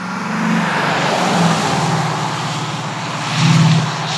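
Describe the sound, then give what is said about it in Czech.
A Maserati Ghibli diesel sedan with 275 horsepower and an 8-speed automatic roars under full-throttle acceleration, a steady loud drone with a low throbbing tone that swells briefly near the end, continuous, with no voices. “Drtím ho pod plynem a je mi jasný, že si můžu dovolit opravdu hodně.”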